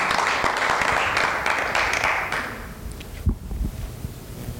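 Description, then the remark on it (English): A church audience claps together in praise on a Friday night, in a dense, steady burst of applause that stays loud for about two seconds, then thins out and fades into a low murmur with a few scattered claps. “Let's give Jesus Christ another hand clap of praise, church.”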